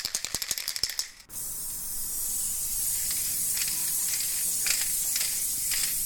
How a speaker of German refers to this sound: Ey, du Vollidiot, was soll das, mich anzusprühen? Ein Graffiti, du hast es mir doch selber erlaubt.